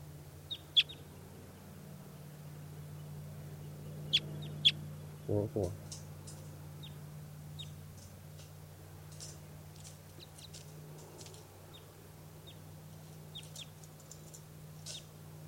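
Type 2 crossbill calls, including bird 404, recorded at 4:24 p.m. on June 5th: short, sharp, high-pitched chip notes come in scattered bursts over a steady low hum, with one brief dull thump partway through.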